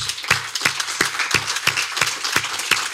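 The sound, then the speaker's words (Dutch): An audience applauds a former teacher, with a dense, steady wash of clapping punctuated by louder, rhythmic beats at a quick, even tempo, as if part of the crowd claps in unison. “Mag ik een applaus”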